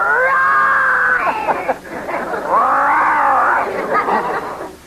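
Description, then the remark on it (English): A father imitates a lion's roar, a loud, drawn-out, wavering bellow with a brief break in the middle before a second long roar trails off. “Gee, you sure are a good growler, Dad. How about a lion?”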